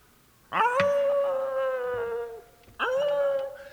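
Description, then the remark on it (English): A dog lets out a long, steady howl that holds for nearly two seconds, breaks off briefly, then starts a second howl. Loud and alone, with no talking. “But the worst of it was, for weeks after that, his ghost followed me around, howling for his lost tail.”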